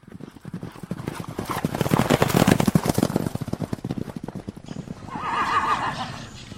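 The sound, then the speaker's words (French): A saddled and bridled Spanish horse passes by, its hooves clip-clopping in a steady rhythm, then it lets out a loud, quavering whinny near the end. “Par là, passa un beau cheval d'Espagne, tout scellé, tout bridé.”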